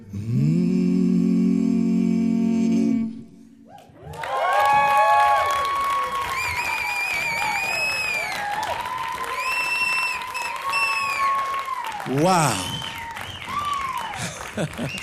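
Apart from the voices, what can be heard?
audience applause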